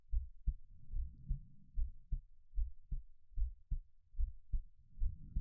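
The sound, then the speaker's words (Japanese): A human heartbeat, the speaker's own, thumps steadily in muffled low pulses, paired lub-dub beats repeating about once a second over a soft rumbling background, with no voices. “ほら、ご主人様、また心音を聞かせて差し上げますから、私の鼓動を聞きながら、もっと深い催眠へ落ちていきましょう。”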